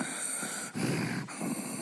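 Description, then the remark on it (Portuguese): A voice imitates heavy, forceful breathing: about three loud, rough breaths in quick succession, each separated by a brief catch, with no words spoken. “Sabe quando a respiração vem forte, assim?”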